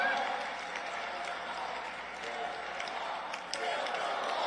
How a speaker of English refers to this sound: Yeah, the crowd chants, build the wall.